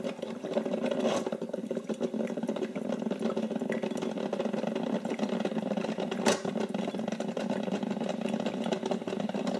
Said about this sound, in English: The sound of the water slowly being heated. And then that crackling, squishing sound of the water mixing and beginning to fill the coffee pot.